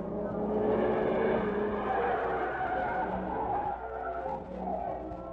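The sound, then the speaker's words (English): A car drives out of a meat company through the gate, its engine droning loudly and steadily with a whining, tire-like tone layered over a low rumble for about five seconds, no voices. “Look, car coming from meat company now.”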